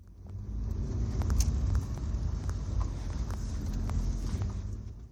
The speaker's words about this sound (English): The car slows as it climbs a small hill, then turns left onto a new street.